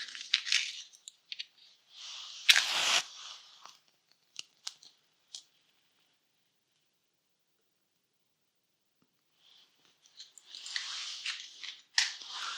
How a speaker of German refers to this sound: Wir feiern eine kleine Liturgie. Zu Beginn zünde ich eine Kerze an.